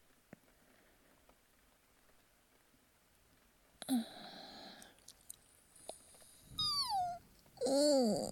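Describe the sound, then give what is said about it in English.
A few breathy yawns, each sliding down in pitch into a squeaky, voiced tail, the last two louder and drawn out. “Cute yawns and all.”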